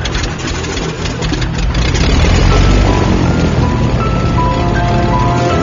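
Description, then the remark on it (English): A heavy piston engine newly mounted on a C-46 aircraft rumbles and builds during a test run-up at Island Lake, Manitoba, its low, steady roar swelling louder and rougher as it revs up, with no voices over it. “are ready to test the new engine they've mounted on the C-46.”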